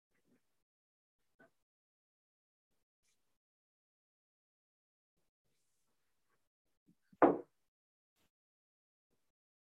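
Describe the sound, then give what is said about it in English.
A door shuts with a single solid thud, preceded by a faint latch click, against near silence with a few soft, scattered taps earlier on. “I just heard a door, so I think he might be okay.”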